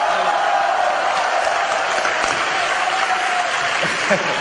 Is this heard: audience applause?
yes